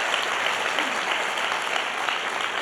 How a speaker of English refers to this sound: Come on, if you believe it, give God a big round of applause all over this house.